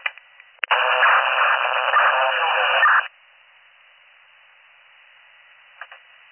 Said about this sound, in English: That was all static.